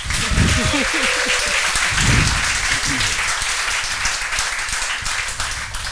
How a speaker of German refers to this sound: Was man daran hören könnte, dass wir alle sehr aufgeregt atmen oder dass alle Leute, die hier sind, jetzt einmal kurz ihre Hände gegeneinander schlagen.